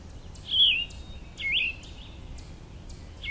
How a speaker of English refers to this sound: I can hear that nice, hoarse, robin-like song of the scarlet tanager. And I'm even picking up the cerulean warbler. And a little bit of a hoarser vireo sound, as well as a yellow-throated vireo. And those birds like to stay high up in the canopy.